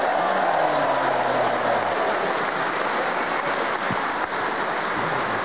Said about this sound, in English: A well-deserved round of applause, because it's a tough game, and to do that without hesitation, repetition, or deviation for one full minute and not be interrupted.